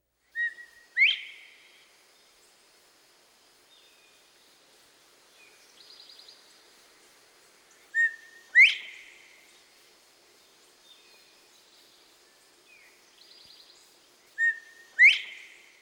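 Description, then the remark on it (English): A common eastern songbird of hedgerows and thickets sings alone, repeating a short phrase three times: a clear whistled note followed by a sharp, bright burst, with softer buzzy trills in the pauses between phrases. “Here are 9 species that regularly take advantage of this dense cover.”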